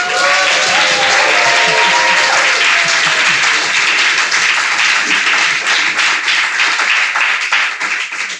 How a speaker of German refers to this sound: Hallo und herzlich willkommen hier in der Jugendmusikschule in Hamburg zu unserer allerletzten Podcast-Folge. Ihr dürft jetzt applaudieren.